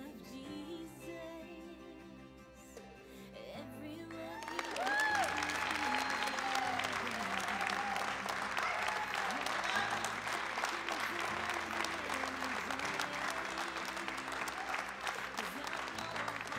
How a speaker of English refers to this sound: Give God another round of applause. Come on, somebody.